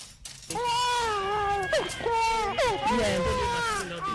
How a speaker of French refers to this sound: âgée de 3 mois, pleure à l'hôpital de Messassi, à Yaoundé.